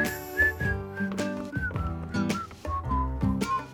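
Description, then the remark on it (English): A bright whistled melody glides over a full band backing with bass and drums, the whistled tune rising and falling in short phrases at a steady, moderate loudness. “I like that part of this song where they whistle.”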